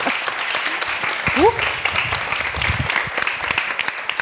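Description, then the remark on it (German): A crowd applauds steadily throughout, dense overlapping claps at moderate loudness, with a brief rising whistle-like tone cutting through near the middle. “Und unter Applaus gehen wir natürlich nochmal unter Applaus, ja, schöner, wunderbar.”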